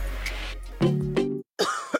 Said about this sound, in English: Sorry, I can't sleep with this cough.